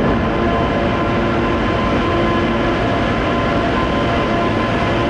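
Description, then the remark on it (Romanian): The Prietenia passenger train linking Chișinău and Bucharest rolls steadily along the rails, a loud, continuous rumble with low clattering and rattling of the carriages from start to finish, with no voices. “În ultimii ani, trenul Prietenia, care face legătura între Chișinău și București, circulă mai mult pustiu, plimbându-și personalul dintr-o țară în alta.”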